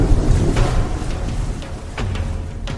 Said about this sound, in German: Und vor ihnen nur meterhohe Sturmwellen im pazifischen Gewitter.